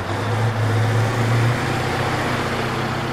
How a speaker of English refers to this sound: Dump trucks rumble in, carrying garbage bags from about 24 cities and towns. The trucks empty the trash onto a warehouse floor, where a bulldozer pushes it into a massive pit.